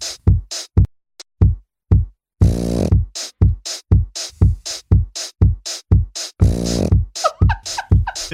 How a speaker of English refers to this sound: It is a pug snoring. It is a pug snorting. It is a pug. It looks like sniffing.